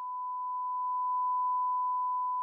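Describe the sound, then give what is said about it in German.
A steady, pure electronic sine tone, high, synthetic and low in overtones, holds one pitch for the whole stretch, smooth and unwavering, with no voices or other sounds around it. “Die Eigenschaften dieses individuellen Klangs, er klingt hoch, synthetisch, obertonarm, statisch. Seine Bezeichnung lautet Sinuston.”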